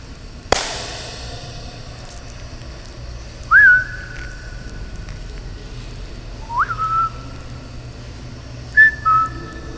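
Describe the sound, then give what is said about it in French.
A sharp crack rings out first, then three whistled notes, each sliding up and holding a steady high pitch, ring out with long echoing tails across a reverberant space open on two sides, with a large white wall and an odd hopper-like structure overhead. “Ça, ça a l'air un super espace réverbérant, ouvert sur deux côtés avec un grand mur blanc et une espèce de trémie bizarre là-haut.”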